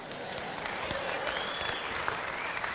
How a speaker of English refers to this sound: Actually got applause.